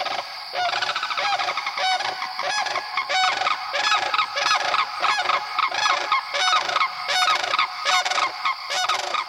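Loud, rattling bugling unison call of a mated pair of sandhill cranes in the breeding season, one giving a lower guttural call, overlapping in a continuous duet, harsh and rolling with rapid repeated notes, sustained throughout with no talking.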